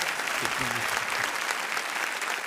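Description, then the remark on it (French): Steady applause from an audience at the Cirque Royal, a dense wash of clapping hands that holds at an even level throughout, with a brief murmur of voices near the start. “Qui ne me connaît pas personnellement par applaudissement ?”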